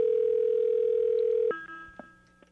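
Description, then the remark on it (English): A steady, fairly loud telephone ringing tone hums on the line for about a second and a half, then cuts off abruptly, followed by a few faint clicks and line noise as the call connects. “People should pick up the phone quicker than that when we're calling.”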